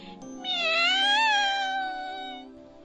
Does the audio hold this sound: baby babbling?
no